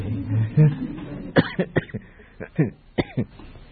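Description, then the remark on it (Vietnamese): A run of sharp coughs, several in quick uneven succession, with some throat clearing mixed in and a bit of low voiced sound at the start. “Tôi mà ho nhiều là tôi nghĩ á nghe.”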